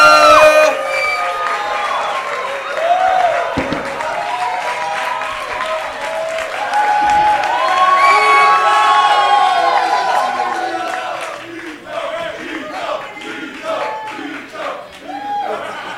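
A comedy show audience claps and cheers loudly and steadily as a panel of comedians is introduced, with whoops and shouted voices rising over dense applause that thins into scattered clapping and calls toward the end.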